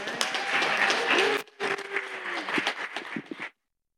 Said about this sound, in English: A big clap for them.